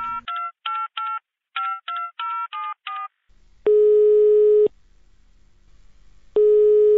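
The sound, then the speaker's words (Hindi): A quick run of about nine touch-tone beeps as a phone number is keyed in, followed by a faint hum and then long, steady ringing tones while the call waits to connect. “होते हम फोन करे छी।”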